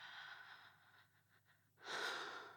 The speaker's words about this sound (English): My skin gets goosebumps and my breathing quickens